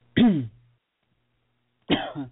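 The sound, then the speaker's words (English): Two separate coughs before a show starts: a short harsh burst, then after a pause of over a second a second, slightly longer one with a throaty rasp. There is no talking in between. “We got the cough out of the way before the actual show starts.”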